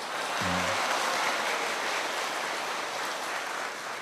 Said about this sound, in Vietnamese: Tốt quá, nghe những tràng vỗ tay rất là giòn giả.